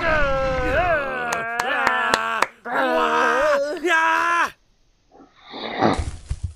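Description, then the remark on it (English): A person makes a run of loud, throaty grunting and groaning vocalizations with wavering pitch, punctuated by sharp percussive clicks, imitating a pig, then pauses before a breathy, rasping snort. “I feel like a fool, grunting like a pig.”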